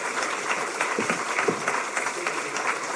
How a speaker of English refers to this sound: Let's give all the mayors a round of applause, if you would.